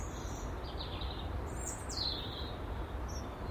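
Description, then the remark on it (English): A few thin, high whistled blackbird notes and short sliding calls on an overcast morning, fairly faint over a steady low rumble of outdoor background noise, with no one talking. “Good morning, Mrs. Blackbird, how are you?”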